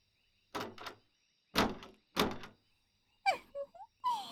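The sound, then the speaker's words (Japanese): A room's door is tried but stays shut, sealed by a magic barrier: three heavy thunks in a row, followed by quick squeaky rattles of the handle, with no voices. “無駄無駄、結界の上位魔術じゃ。そのまじないは、もはや夜でも開かぬ。”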